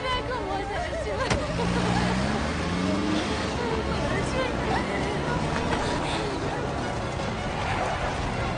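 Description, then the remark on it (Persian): A pickup truck's engine revs up and pulls away amid a thick wash of crowd hubbub and background noise, voices murmuring throughout. “شما برین آقا، راه بیفتی.”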